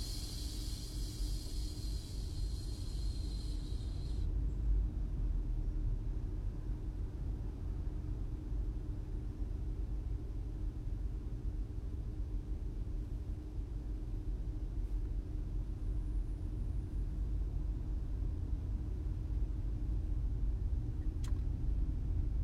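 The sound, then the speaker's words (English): A steady, low engine rumble drones on without a break from a car idling in stopped traffic next to a Range Rover, with a brief airy hiss over it at the start and no voices. “Sitting in traffic next to this Land Rover.”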